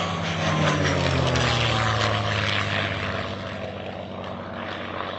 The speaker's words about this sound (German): Der Flieger drehte noch eine weitere Runde über mir, konnte mich aber anscheinend nicht mehr entdecken.